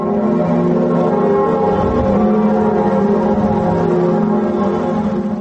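The large bells of Notre Dame cathedral in France ring continuously at noon during a minute of silence for those killed in the Charlie Hebdo massacre, their deep overlapping tones sustaining in a dense, resonant wash with no pause. The sound is loud and full, with no voices heard.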